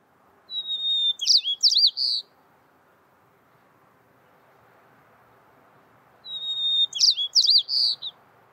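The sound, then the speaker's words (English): A white-crowned sparrow sings its song twice, each phrase opening with a clear whistled note followed by quicker buzzy trills, separated by a few seconds of quiet outdoor background. “For example, I'm going to play you the song of a white-crowned sparrow.”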